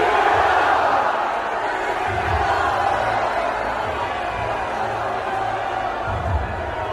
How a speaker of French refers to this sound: En tout cas, il est applaudi par ses soldats quand il lance cet appel à la mobilisation.